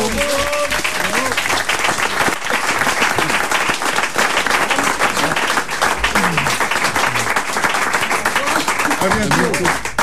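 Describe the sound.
A crowd applauds steadily and loudly for about ten seconds, a dense wash of many hands clapping, with scattered voices and cheers mixed in underneath.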